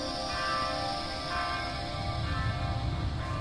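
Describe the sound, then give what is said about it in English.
Clock tower bells ring, struck about once a second, with long overlapping tones hanging in the air over a low outdoor rumble, recorded in a garden. “And at the moment, you're hearing mainly a recording I made in my garden a few days ago of ringing clock tower bells.”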